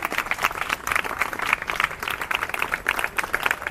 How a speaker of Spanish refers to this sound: Así que, la verdad, sin nada muy preparado para decir, siento mucha emoción y así que creo que quizás tendríamos que aplaudirnos entre nosotras por el paro de mujeres que llevamos adelante.